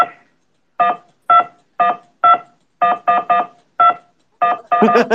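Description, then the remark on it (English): About a dozen short, loud beeps from phone keypad buttons pressed during a phone call, in an irregular rhythm with brief gaps. The last few come quickly and run together. “I just have my thing muted and I'm gonna press buttons.”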